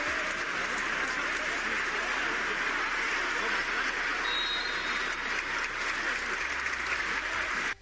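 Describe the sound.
A large crowd in the Los Pajaritos sports pavilion gives a sustained, loud ovation welcoming its young player, dense clapping filling the hall for several seconds with cheers and voices mixed in, cutting off abruptly at the end.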